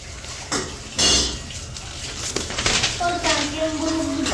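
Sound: running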